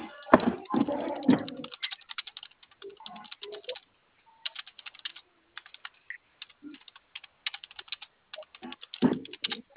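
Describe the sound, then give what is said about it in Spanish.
Rapid, irregular clicking of keys on a computer keyboard that sits under the box, moderately loud, in bursts with brief pauses; a bit of low voice or handling noise at the start and end. “El teclado está abajo de la caja, digamos.”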